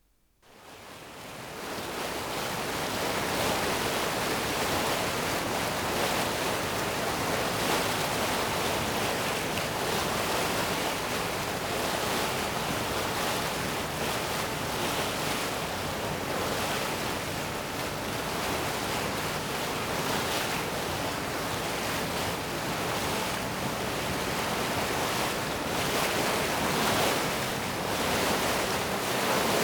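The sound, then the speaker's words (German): A steady, dense rush of water and wind from a steamboat ride, a hiss-like roar that holds nearly constant for half a minute, with no voices. “Von einer Dampferfahrt bringe ich das Weiß mit.”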